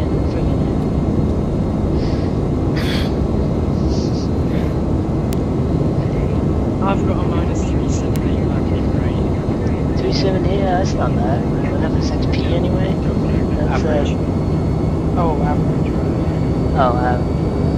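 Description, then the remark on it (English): A JetBlue jet airliner taxiing, its engines producing a steady, loud low rumble and whine throughout, with faint scattered chirps and muffled bursts on top. “This JetBlue plane seems to be freaking following me. It's working with their own taxi now.”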